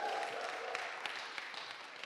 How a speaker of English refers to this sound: can we give these guys a big round of applause as they come and join?